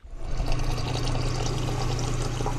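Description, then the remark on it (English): Water runs steadily from a tap into a water bottle being filled, a continuous rushing pour with a faint hollow tone underneath, lasting a few seconds with no talking. “when they go to the tap and fill up their water bottles like he does every day”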